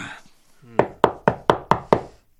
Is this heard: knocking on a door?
yes